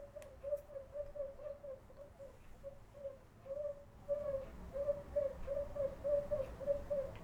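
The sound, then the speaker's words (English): A traditional Māori bird-lure instrument, the puia fiofio, used to catch a particular bird, sounds a bird-like call: a quick, steady series of short, clear whistled notes repeating for several seconds over a faint low rumble, with no talking. “Now the puia fiofio was an instrument that our ancestors used to catch a particular bird.”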